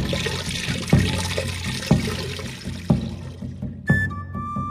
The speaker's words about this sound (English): You're going to have so much recording of things being poured.